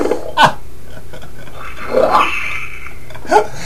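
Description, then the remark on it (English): Tap water runs during a live radio broadcast in a steady, soft hiss, broken by three louder splashy bursts spaced a second or so apart, as if something passes under the stream. “You're running water.”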